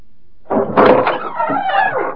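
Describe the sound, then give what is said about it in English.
A door opens with a drawn-out creaking, scraping sound lasting about two seconds, moderately loud, with no one speaking. “Answer the door, Zoom.”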